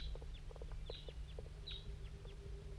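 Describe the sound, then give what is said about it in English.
A wild crossbill of a large race, at least one bird flying around in a hollow at 8:06 a.m., gives a string of short, sharp, high chip notes at an irregular pace, a few louder than the rest, over a steady low hum. “and there's a wild crossbill somewhere down here in the hollow.”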